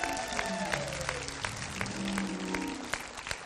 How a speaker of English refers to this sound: Come on, if you're going to clap, don't mess around on that.